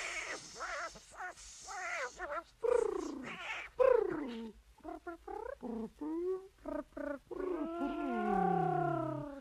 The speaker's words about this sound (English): Yes, meow.